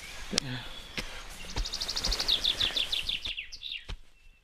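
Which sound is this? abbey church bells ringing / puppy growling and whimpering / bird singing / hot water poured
bird singing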